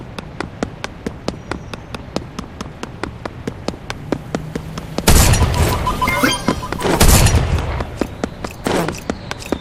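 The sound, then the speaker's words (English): Rapid, evenly spaced video game gunshots fire at cars in a steady stream, then give way midway to louder crashing impacts and rumbling blasts before the shots resume, all without any talking. “Now, let's see if I can shoot some cars here.”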